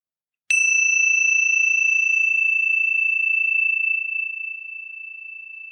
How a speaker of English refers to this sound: And what I'm going to do is just sound the bell because of what it does, which is to bring us back to the present moment.